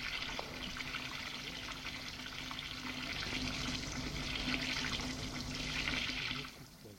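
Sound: shower water running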